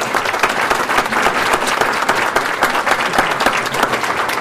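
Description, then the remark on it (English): An audience applauds steadily, giving a round of applause to city council and county board members, a dense, even wash of many hands clapping at once, loud and sustained with no voices rising above it. “If you just hold your hand up and let's give them a round of applause.”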